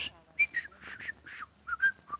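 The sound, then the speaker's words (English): A thin, breathy whistle forced through crooked front teeth, sputtering in short faint bursts with airy hiss, weak, trailing off without forming a clear tune. “They must have been bent just right, because now all I can get is just”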